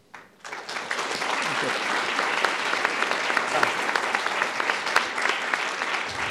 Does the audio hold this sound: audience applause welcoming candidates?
yes